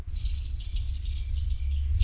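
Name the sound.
keys jangling in hand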